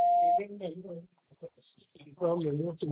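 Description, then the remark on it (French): A single short, steady answering machine beep sounds at the start, clear, then a person begins speaking right after it, leaving a message on a line for reporting water shortages and naming the location. “C'est à vous après le bip.”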